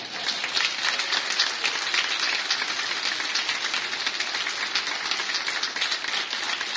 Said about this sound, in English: Please join me in welcoming to the world of love and support with his first personal round of applause.